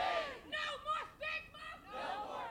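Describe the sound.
A crowd of dozens rallying outside City Hall, shouting together in loud, drawn-out calls with rising and falling pitch like a chant. They fill the whole stretch with only brief dips between phrases.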